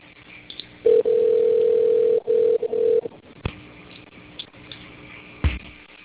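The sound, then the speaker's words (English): A steady, mid-pitched phone dial tone sounds for about two seconds with a brief break partway as a caller is phoned back, then cuts off, leaving quiet line hiss and a couple of soft clicks. “Let me try calling you back one more time”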